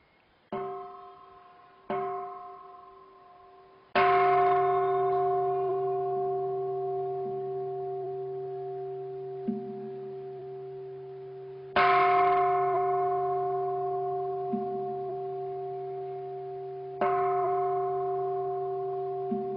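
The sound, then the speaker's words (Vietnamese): A Buddhist temple bell struck several times in the ritual style of southern-region Buddhism for opening the bell and wooden fish before chanting: two lighter strikes, then three heavy ones spaced apart, each leaving a deep, shimmering tone that rings on and slowly fades, with no talking. “Đây là cái cách khai chuông mõ theo phong cách của nghi lễ Phật giáo miền Nam.”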